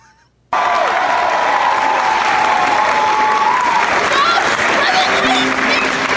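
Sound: audience applauding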